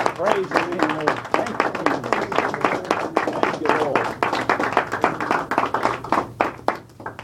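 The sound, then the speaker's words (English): A church audience applauds steadily as a hand clap of praise to the Lord, many overlapping hand claps forming a dense, continuous patter at a fairly loud level, while voices call out underneath. “Can we give the Lord a hand clap of praise and just welcome you?”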